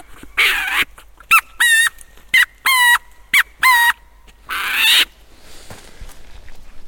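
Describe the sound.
A handheld bird call squeaks out a series of sharp, harmonic chirps and squawks in short loud bursts, with brief pauses between, imitating a bird's cry.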